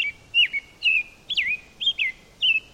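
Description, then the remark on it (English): An American robin sings a steady run of about six short, clear, whistled phrases, each rising and falling, evenly spaced, with no voices over it. “The American robin rates as one of our best-known birds.”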